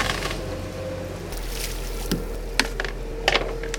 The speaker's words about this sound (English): hauling lobster pots in Robinson's Hole.